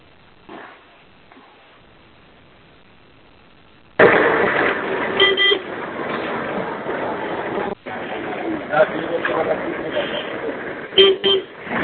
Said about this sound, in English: Somebody's got a car in the background beeping.